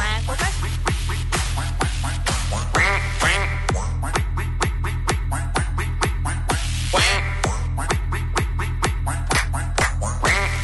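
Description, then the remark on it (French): Ducks quack in a rapid, rhythmic stream, loud, over a steady low pulsing beat that runs the whole time, like quacks set to a dance track played by a DJ. “Y a rien de mieux que des canards pour bien finir la soirée.”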